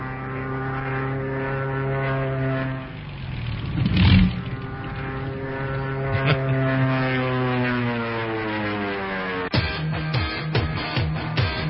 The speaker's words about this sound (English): Well, I love the airplane.